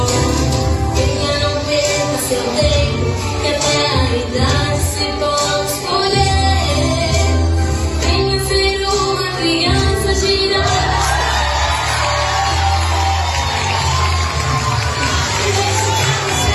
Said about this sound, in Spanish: Ojo que cada vez que suenan aplausos y rompe el público en ovación es que el papá grandote estaba de puntillas.